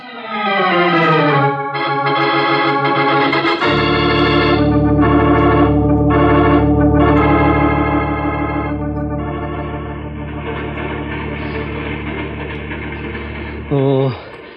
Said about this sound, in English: How long do we have to stay on that board of this rattletrap train anyways? We'll be in Bucharest in a few minutes.